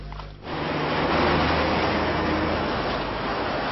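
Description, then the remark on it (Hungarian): One of the last trucks roars past on the Balatonföldvár section of Route 7, its broad rumbling wash rising sharply after a brief low engine hum and staying loud and steady to the end. “Az utolsó kamionok egyike a 7-es út Balatonföldvári szakaszán.”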